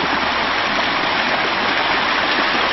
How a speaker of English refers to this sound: We're seeing another waterfall. This is near the recording studio.